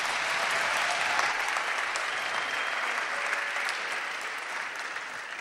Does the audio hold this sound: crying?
no